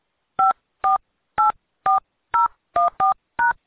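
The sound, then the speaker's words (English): A quick series of eight touch-tone keypad beeps as an account number is entered during an automated phone call, each a short two-pitch tone pressed at a steady, brisk pace, clear with silence between presses and no voices. “To look up, please enter your account number, followed by the pound key.”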